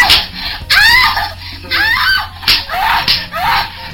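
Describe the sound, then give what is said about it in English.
A person screams loudly in a series of harsh, strained bursts, about four or five piercing outcries in quick succession, with short ragged pauses between them. “I have never caused anyone to scream that loud in my life.”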